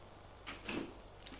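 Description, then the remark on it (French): A bedroom door opens onto a large dark corridor with a short, soft creak and a faint rattle of the handle, two quiet bursts of sound over a low background hum. “Va vers la porte. Pourvu qu'elle ne soit pas fermée. Elle ouvre un grand couloir tout noir.”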